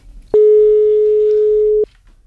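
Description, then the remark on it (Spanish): A telephone ringback tone on an outgoing call from Cadena SER radio to the Marbella-based animal-cloning company Ovo Horse: one steady, mid-pitched electronic beep lasting about a second and a half, loud and unwavering, with faint low rumble before and after. “que llame a la empresa Ovo Horse and Ovo Clone, se llama, con sede curiosamente en Marbella.”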